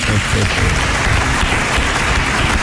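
Steady audience applause fills the whole stretch, a dense crackle of many hands clapping at once, loud and even without a break, with a faint murmur of voices underneath.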